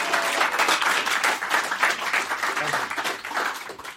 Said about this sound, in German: Guck mal, heute Applaus im Podcast.